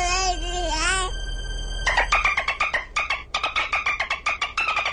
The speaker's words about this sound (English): So the baby peanut is making dolphin sounds.